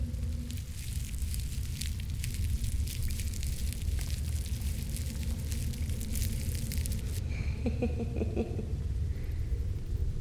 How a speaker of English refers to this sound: I kind of like this, you know? Listening to the sound of the rain, I mean. There's just something so soothing about it. So relaxing.